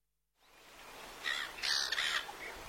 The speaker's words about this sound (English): Blackbirds in Tasmania.